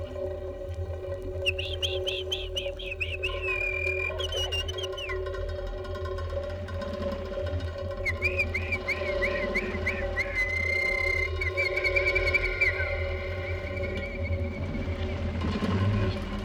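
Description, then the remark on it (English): Two bursts of a male chaffinch's song, each a bright, rattling run of repeated notes that tumbles downward and ends abruptly, sung over a steady low background rumble. “From February until early July, the male bird sings a rocking little song with great gusto, and it ends very abruptly.”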